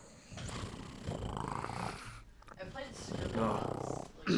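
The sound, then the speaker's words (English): A person does a steady vocal imitation of a cat purring as one of several animal noises, a low rumbling rattle that pulses for a few seconds, with a brief voiced sound near the end. “I mean, purring is a good one.”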